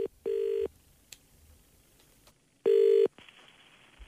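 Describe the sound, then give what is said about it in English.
Two steady electronic ringback tones on a telephone line as a man calls his father, each lasting under half a second and separated by a long pause, with faint line hiss and no voices. “Rossi's now called his dad here to break the news to him”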